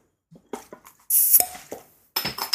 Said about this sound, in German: So, womit fangen wir an? Ich habe hier Berliner Weiße, Himbeer und Waldmeister. Ja. Ja, und so. Dann müssen wir doch erstmal die Flasche aufmachen.